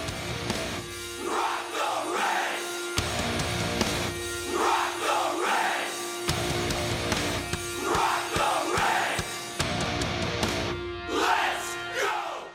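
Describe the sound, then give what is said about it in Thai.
A large crowd of Washington Capitals hockey fans chants the Capitals' cheer song in unison, loud and repeated in surging waves, with bursts of yelling and roaring between phrases. “ครับนั่นก็เป็นเพลงเชียร์ของ Capitals นั่นเอง”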